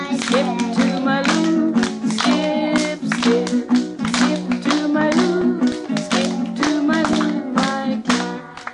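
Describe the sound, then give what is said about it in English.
Hands clap out the rhythm of the folk song Skip to My Lou, a steady, driving beat with each sharp slap evenly spaced, while a sustained melodic line carries along underneath at a fairly loud level throughout. “All right, if you want to clap it out, all right.”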